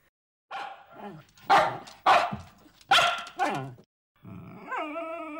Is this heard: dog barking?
yes